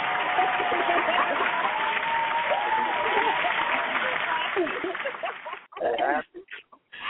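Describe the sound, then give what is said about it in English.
An audience applauds in a dense, steady wash of clapping for about five seconds, then the applause breaks off into a few short, scattered bursts before ending. “We're going to give a round of applause for that.”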